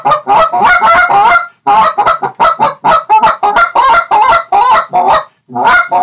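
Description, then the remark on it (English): A Canada goose call blown in a rapid, loud series of honks and clucks, uninterrupted for several seconds apart from one brief pause, with no voices. “I like to spec hunt, but that is my favorite Canada goose call that we make.”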